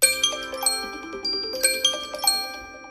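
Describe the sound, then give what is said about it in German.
An alarm clock rings with a bright, melodic chime, a quick run of clear bell-like notes repeating fairly loud, with no voices. “Der Wecker klingelt und man hat nur noch einen Tag bis zur wichtigen Abgabe.”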